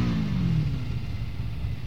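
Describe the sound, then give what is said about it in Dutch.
A motorcycle engine, ridden along with a demonstration, rumbles steadily, its low growl briefly shifting pitch as it revs, running continuously for the whole two seconds with no voices. “Waarom rij je met de motor mee?”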